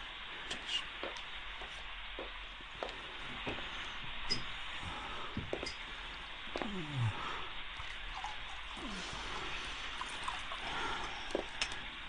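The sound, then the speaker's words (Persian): Water trickles and splashes into a glass in a short, quiet pour over a steady background hiss, with a few small clinks along the way, as a glass of water requested from a doctor is poured. “میبخشید، میشه یه لیوان آب به هم بدین آقای دکتر؟”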